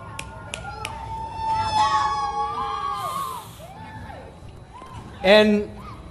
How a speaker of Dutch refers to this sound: Hier tellen we af en... En hier hoor je ons gillen.